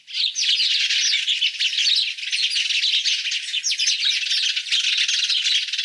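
A busy chorus of house sparrows and tree sparrows chirping and chattering nonstop, many overlapping high, bright calls at a steady, fairly loud level, with no voices.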